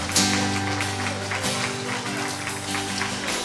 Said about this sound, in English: I'll give God a hand clap of praise if you believe that.